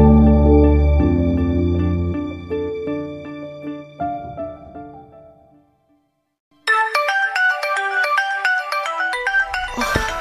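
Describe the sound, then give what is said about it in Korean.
A mobile phone, left behind with its owner not around, plays its ringtone loudly on its own: a sustained melodic tune fades to a brief pause, then a brighter, busier melody kicks in near the end. “근데 핸드폰이 여기 있다. 누구 거지?”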